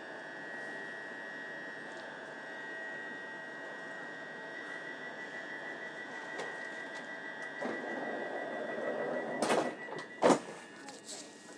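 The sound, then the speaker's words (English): Steady electrical hum and whine inside an Electro-style electric passenger train, boarded at platform 1, next station Barking, with a couple of sharp bursts near the end as the doors slide and thud shut. “Southeast, I think it's a, just to be all transport nerdy, I think it's a Euro, an Electro style train.”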